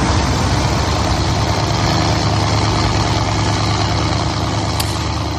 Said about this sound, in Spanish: La lancha en la que viajan tiene 12 metros de eslora, 3 potentes motores. Es igual a las que se usan para transportar la droga.